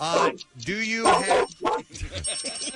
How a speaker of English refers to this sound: Do you have a pet? Do you have a dog? Yep. All right, get your dog to bark. He did.